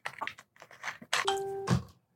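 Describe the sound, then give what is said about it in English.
A single bright electronic ding from a phone notification rings out clearly, holding steady for a moment after some brief shuffling and clattering noises. “Is that your phone making noises?”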